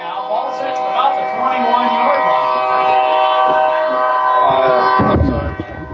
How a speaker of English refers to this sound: Doesn't get any better than Kennesaw with the train, does it? Maybe Overton with the trains.